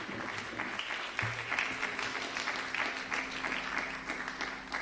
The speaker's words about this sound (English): Let's give God a hand clap of praise in this place. Amen.